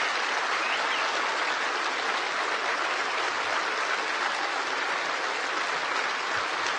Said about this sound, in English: I want you to once again applaud this president for being proud of who we are.